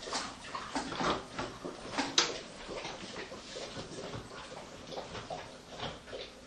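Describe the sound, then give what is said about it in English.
Filtered water is poured steadily for several seconds while cooking, after lemon, carrot, Maggi or soy sauce and sugar: a splashy rush with small surges and a brief clink partway through, heard on its own without talking. “And then some filter water.”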